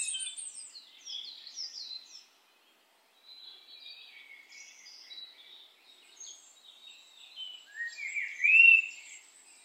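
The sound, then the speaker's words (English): Several birds chirp and trill in a forest in overlapping high-pitched phrases, a busy woodland chorus with one brighter, louder call near the end and a brief pause early on. “You hear the wind blowing and the sounds of the animals. You hear the birds.”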